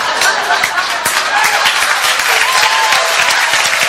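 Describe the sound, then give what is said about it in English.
A crowd applauds steadily, a dense, sustained wash of many hands clapping at a fairly loud, even level, with scattered sharper claps poking through and a few voices murmuring underneath. “Okay, that wasn't that funny, and it wasn't deserving of an applause.”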